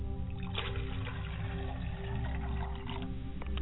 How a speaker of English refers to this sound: I pour libation to the north, and I say, Ashe, libation. I pour libations to the south, and I say, libation. Libation. I pour libation to the east, and I say, libation.